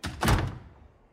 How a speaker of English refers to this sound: Jimmy goes into his dressing room and shuts the door in their faces.